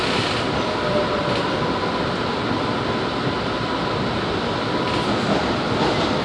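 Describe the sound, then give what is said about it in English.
Steady, loud rumble of a train running between the Dean Grove and Englewood Avenue stops, bound for Cleveland Circle, with a constant roar of wheels on track and faint rattling throughout, no talking. “The destination of this train is Cleveland Circle.”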